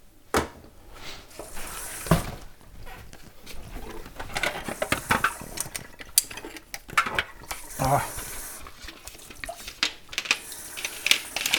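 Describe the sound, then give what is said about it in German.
Pens clatter and click as they are sorted in a drawer, a busy scatter of light taps and rattles throughout, with one short exclamation from a voice. “Ich bin mittlerweile beim Stiftesortieren zwischendrin.”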